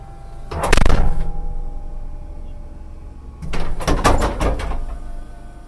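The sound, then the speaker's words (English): A police SWAT team's MRAP armored vehicle hydraulic back door, demonstrated by an officer of the Yuma Police Department, operates with a steady mechanical hum, broken by a loud clunk early on and then a cluster of rattling metallic thuds as it moves and latches. “As an officer demonstrates the MRAP's hydraulic back door”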